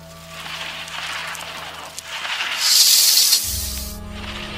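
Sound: snake hissing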